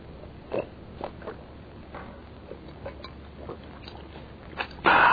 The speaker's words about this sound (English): I'll have to drink all of this water to answer that question. Water, the elixir of life.